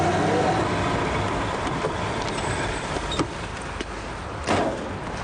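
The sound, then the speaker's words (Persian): Someone gets out of a car amid steady vehicle rumble, with a few clunks and a thump from the door toward the end. “مرد مشکوک رو گم کردم، از ماشین پیاده شدم میرم روکبار رو نگاه کنم.”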